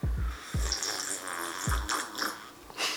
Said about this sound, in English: Wow, I need to take a sip of tea. Okay.